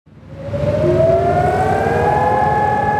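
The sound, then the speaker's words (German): A civil defense siren rises and then holds a long, steady wail, loud and sustained, over a low rumble of outdoor background noise, as memorial sirens sound across Israel, heard in Tel Aviv, at exactly 11 a.m. for two minutes. No one speaks. “Punkt 11 Uhr heulten die Sirenen im ganzen Land auf.”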